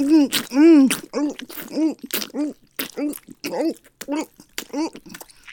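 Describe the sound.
A voice whimpers through a string of short, whiny cries, each sliding up and falling back in pitch, with quick breathy catches between them.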